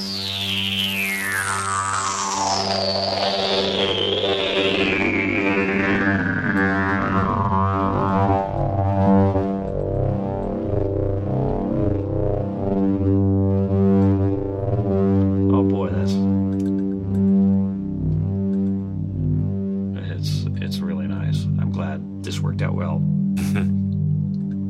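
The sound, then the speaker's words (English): A single sustained synthesizer note from one held key, loud, as its filter cutoff sweeps steadily downward, turning the tone from bright and buzzy to dark and muffled, with sharp crackly bursts near the end. “Now I'm going to play with the filter cutoff.”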